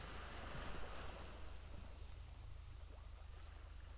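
Steady wind rushes over continuous surf as waves wash onto the shore, a broad unbroken roar with low rumble and faint gusts, no voices present.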